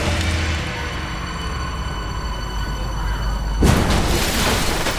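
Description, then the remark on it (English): A bus engine drones steadily with a faint whine, then abruptly gives way to a loud crash and a broad, rushing wash of water as the vehicle hits the water. “Trying to crash into the water!”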